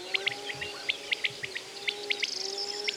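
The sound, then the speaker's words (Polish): A common quail, one of several on a meadow in the evening, calls repeatedly with its characteristic pit-pilit, sharp liquid notes grouped in short bursts of two or three, clear over a faint steady background hum. “Rzeczywiście przepiórka jakby w ten sposób wołała.”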